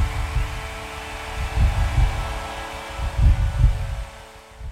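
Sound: heartbeat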